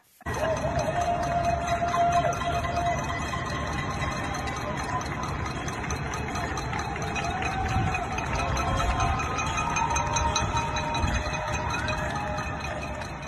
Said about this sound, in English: to the average listener, that cacophony of pots and pans would be just simply noise. But actually, it is a communal celebration of gratitude.